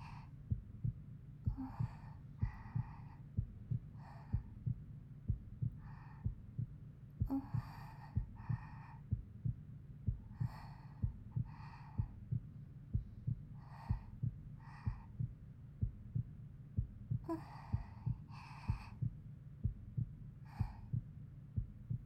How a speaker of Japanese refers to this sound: 心臓の音、本当に落ち着く。大好き。